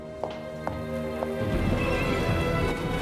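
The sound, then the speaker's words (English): Horse hooves clatter with a few sharp clip-clops before giving way to a dense, steady rumble and rattle as a horse-drawn carriage races away from an abbey through the rain, with rain hissing throughout. “Catherine slumps in the Tilney's carriage as it races away from the abbey through the rain”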